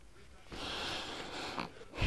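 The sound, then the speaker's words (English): A single long, raspy snore drawn in on the breath, fairly steady for about a second and a half before trailing off into a soft snort. “Uh-oh, don't start that snoring again.”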